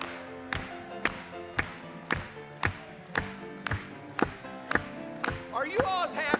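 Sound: audience applauding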